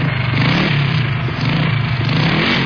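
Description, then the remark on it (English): A motorbike engine, ridden by Rent-a-Santa in place of his reindeer, runs loud, a continuous rumbling drone with slight throttle surges, filling the whole stretch without any voices. “But this year, he's traded in his reindeer for a motorbike.”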